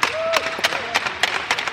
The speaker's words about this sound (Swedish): Vi tyckte det här var riktigt kul. Vi applåderar er! Det var imponerande att se.